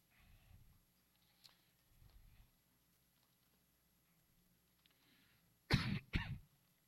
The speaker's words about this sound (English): I feel a cough.